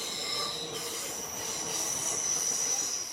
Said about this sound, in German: Im Starnberger See fährt die S-Bahn.